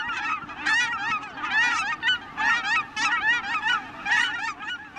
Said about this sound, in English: Thanks to this habitat conservation, there are now more than 120,000 Aleutian cackling geese, making the biannual journey between Alaska and the Gulf of Mexico.